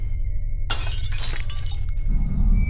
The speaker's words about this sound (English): He hurled the stick loaf and smashed the lamp.